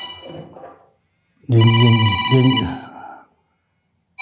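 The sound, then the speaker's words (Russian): A new mobile phone rings with a loud, melodic electronic ringtone lasting about a second and a half, preceded by a faint voice and followed by a brief clipped burst. “Сейчас я это все выключу к чертям собачьим. Я новый телефон, не умею пользоваться.”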